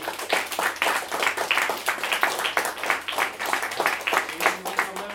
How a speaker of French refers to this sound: Moi, je pense que vous pouvez applaudir le public.